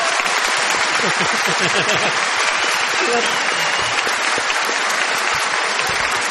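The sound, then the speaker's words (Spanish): A crowd outside the venue, watching on a screen, cheers and applauds steadily when asked to greet those inside, a dense wash of clapping mixed with shouting voices that holds at a loud, even level for the full six seconds. “A ver, vamos a decir silencio acá adentro y a gritarle, a decir, pedirle a los de afuera que saluden. A ver. Sí, llega, se llega a escuchar algo.”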